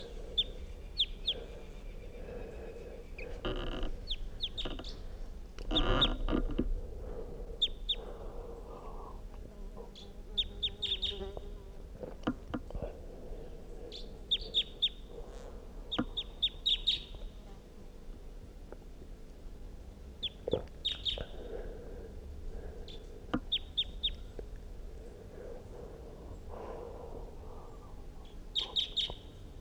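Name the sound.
wild bird calls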